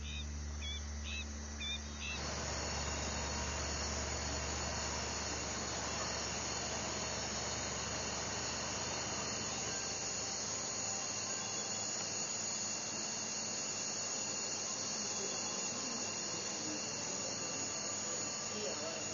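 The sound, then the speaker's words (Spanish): A small propeller plane's engine drones steadily throughout at dusk over Diamante, a continuous buzzing hum with a faint hiss on top, holding a fairly even, moderately loud level without pause. “Sin embargo, al anochecer escucho el zumbido de los motores de una avioneta.”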